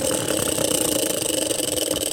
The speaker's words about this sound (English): Good spin. Good clicking. The clicking thing is making a lot of noise.